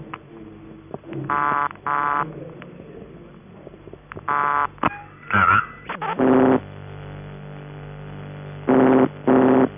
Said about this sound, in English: When you're using vibrator ringing tones, on most exchanges, a buzzer relay tuned to around 133 Hz is used, and here are three examples: Post Office UAX12, a manual exchange, and another PAX.